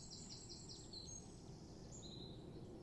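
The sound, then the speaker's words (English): Faint birdsong, a string of thin, high chirps and trills repeating over a steady low rumble of traffic and an aeroplane flying overhead, on a mild, misty morning around 6:30. “Birds are singing.”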